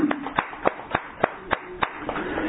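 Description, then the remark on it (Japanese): An audience applauds a man who has turned 94, with steady, evenly spaced claps: about eight or nine sharp hand claps in a regular rhythm over a low murmur, moderately loud, with no voices. “満94歳を迎えられましたので、皆さん盛大な拍手でお願いします。”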